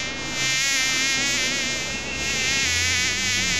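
A fly buzzes loudly and continuously, its whining drone wavering slightly in pitch throughout, with no voices present.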